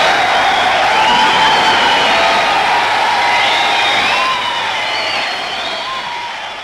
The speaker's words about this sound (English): Hear that applause, dear listener. It was not for Danny Kaye, not for Fred Lane. No. It was all for a commoner garden BBC announcer, Wallace Greenslade. How did he come by this rapturous applause?